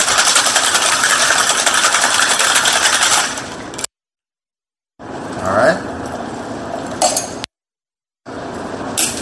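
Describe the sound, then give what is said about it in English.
A cocktail shaker full of ice rattles hard and fast for a few seconds as a whiskey sour is shaken, loud, then stops abruptly; after a pause, softer clinks and handling noises follow, with another brief break. “Anything that's got lemon simple in it is a sour. Shake it up.”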